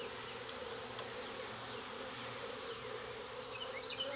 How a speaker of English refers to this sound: There's plenty of bees in this hive.